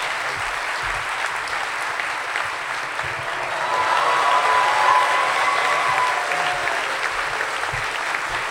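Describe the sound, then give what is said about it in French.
An audience at an evening talk applauds steadily for the speaker's dog Leader, a dense crackle of many hands clapping that swells slightly in the middle before easing, with a faint whistle-like tone briefly audible over it. “Alors, est-ce que vous voulez bien l'applaudir?”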